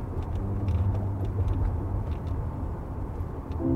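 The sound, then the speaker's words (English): Steady low road rumble of a car cruising east along Highway 14 beside the river on the Washington side around midnight, a continuous dense drone with faint ticks and a low engine hum, no voices. “I hear her voice in my head when I drive along the river, as I am now on Highway 14 heading east on the Washington side.”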